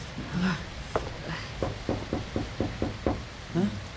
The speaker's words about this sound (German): Oh Mann, gibt's hier keine Klingel? Nicht zu sehen. Klopf doch mal.